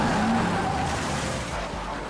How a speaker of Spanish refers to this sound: Un día después de secuestrar a un patrullero y a otro hombre, lo habían visto en una vía rural de Georgia. Estrelló su auto contra una patrulla en el camino.